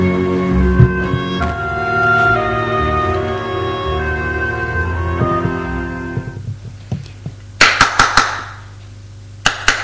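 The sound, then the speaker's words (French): A sustained, dense musical drone fades out, then a quick burst of about four sharp knocks on a door sounds, followed by one more knock after a short pause. “Au bout d'un moment, on a frappé à la porte.”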